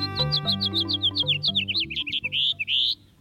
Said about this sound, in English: A typical house finch song has a raspy edge and tumbles forward in a jumbled series of notes. Especially during breeding season, the song has a sharp, buzzy note, like at the end of this one.